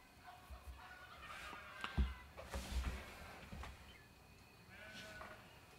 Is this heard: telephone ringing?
no